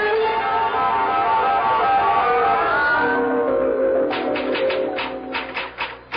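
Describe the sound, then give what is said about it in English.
A sustained tonal hum fills the first part, then a burst of sharp typewriter keystrokes clacks out in quick, uneven succession near the end, distinct, as a letter to the President of the United States is typed. “Oh, I'm typing your letter to the President of the United States and a copy for the Premier of the Soviet and the Prime Minister of China.”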